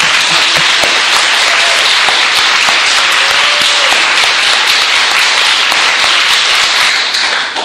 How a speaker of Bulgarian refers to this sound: Благодаря ви. Не съм свикнала да бъда посрещана с аплодисменти.